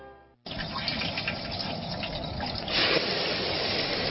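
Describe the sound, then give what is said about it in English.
Liquid pours steadily down a drain in a continuous gushing stream that starts abruptly and grows a little heavier toward the end, with no voices. “Don't pour the oil down the drain or put it in the trash.”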